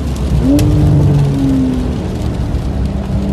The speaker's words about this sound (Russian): 911 Carrera S. Один из лучших автомобилей на планете, в принципе.